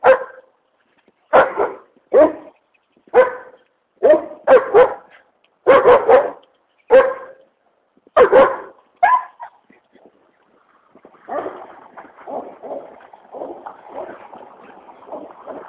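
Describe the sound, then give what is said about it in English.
A dog barks loudly, firing off about a dozen sharp barks in uneven bursts over several seconds, then falls into quieter, rougher continuous sounds. “Dog's out early today.”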